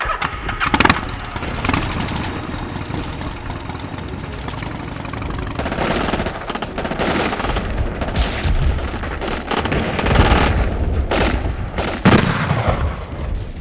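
Gunfire and artillery shelling from cannons, tanks and Katyusha rockets firing on a car on a main road: a dense roar of cracks and booming blasts that grows busier midway, with repeated sharp bursts over a steady low rumble like an engine. No one speaks.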